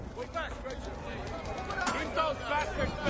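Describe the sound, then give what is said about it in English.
A dense mass of overlapping voices shouting and murmuring at once, a restless crowd hubbub being held back by policemen, with no clear single speaker, steady throughout. “Policemen hold back a crowd.”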